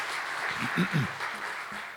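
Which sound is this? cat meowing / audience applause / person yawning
audience applause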